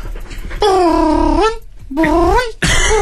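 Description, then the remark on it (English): A person at home imitates a cat to talk to their pet cat Harry, letting out two drawn-out, wavering meow sounds, each rising and falling in pitch with a short pause between them. “I think I talk more cat than human.”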